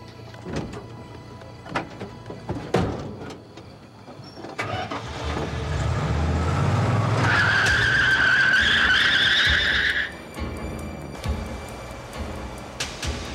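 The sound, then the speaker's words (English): A truck engine revs up and its tires let out a loud, sustained screech for about three seconds as the driver speeds off down the road, followed by fading engine rumble and road noise. “Charles sped off in the opposite direction of his house so the man could not follow him home.”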